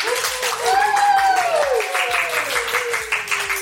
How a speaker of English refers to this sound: And no, that wasn't AI applause. That was actual, no laugh traps. That was actual real people who are here at this wonderful retreat we're having in Guthrie, Oklahoma.